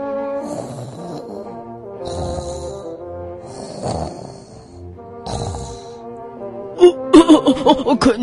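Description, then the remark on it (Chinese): Loud, rumbling snores repeat about four times at a slow, steady pace, each with a rough, throaty drone, ending in a quick burst of choppy, sputtering snorts. “他听到有一个打呼噜的声音传过来。”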